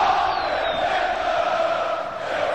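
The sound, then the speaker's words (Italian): A huge crowd of 68,000 Brazilian fans in a stadium in Brazil roars a goal shout, a dense, unbroken wall of voices that stays loud and steady throughout without easing off. “E che tal grito di gol moltiplicato por 68.000?”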